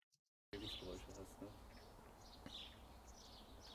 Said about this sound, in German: Das ist von einem Videokurs, den wir aufgezeichnet haben, eine Außenaufnahme von mir. Da haben wir im Hintergrund so ein Grundrauschen, Vögel zwitschern und ähnliches.